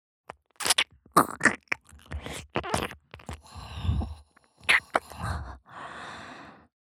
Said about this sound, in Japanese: わかるでしょ。耳舐めてんの。